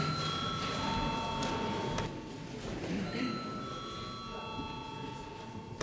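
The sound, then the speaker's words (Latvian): A steady electric bell rings without pause for several seconds, a sustained metallic buzzing tone over faint murmur, rung at an extraordinary sitting with deputies to call them to register. “Lūdzu zvanu reģistrācijai.”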